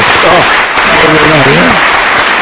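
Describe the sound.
Steady, dense audience applause fills the whole moment, a loud wash of clapping with a man's voice speaking briefly over it.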